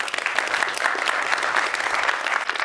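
Steady applause from a crowd fills the whole stretch, dense and even clapping at a fairly close, moderate loudness with no voices standing out.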